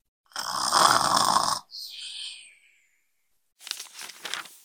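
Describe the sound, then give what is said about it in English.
A bear snores heavily while hibernating: one long, loud rasping inhale, a softer fading exhale, a pause, then another rough, rumbling breath begins. No one speaks. “With the winter wind howling outside, Mama Bear and Baby Bear curl up side by side and hibernate.”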